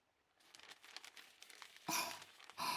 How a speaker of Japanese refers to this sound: この後アルミホイルで巻くんです。そうなると中で蒸し焼きになってホクホクした焼き芋が出来上がります。